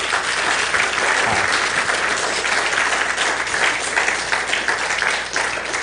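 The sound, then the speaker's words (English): An audience gives a round of applause in appreciation, a dense wash of many hands clapping at an even, fairly loud level for several seconds without any talking over it. “Hey, round of applause for Billy.”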